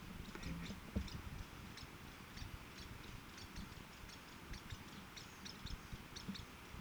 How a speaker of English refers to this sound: two Lewis woodpeckers chattering back and forth to one another.